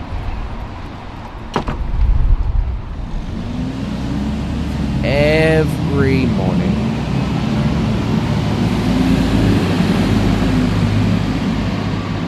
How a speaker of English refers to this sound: Loud, bombastic sounds of traffic, of cars, of trucks, of taxis, of buses zooming up and down this road. But even though it sounds overbearing, the funny thing is, a lot of the time, it blends into the background. It becomes normal sound.